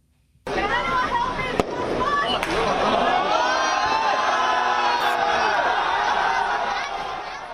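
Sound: crowd shouting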